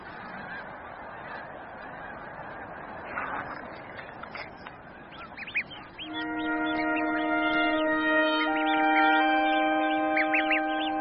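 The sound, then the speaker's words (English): A flock of geese honks in overlapping, nasal calls, scattered at first over a soft rushing background, then swelling into a dense, steady chorus of sustained honks for the second half. “The vast majority of the goslings are still flourishing.”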